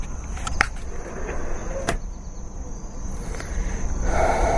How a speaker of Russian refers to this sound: Ну ничего, слушайте, птички поют, там что-то там сверчит вокруг.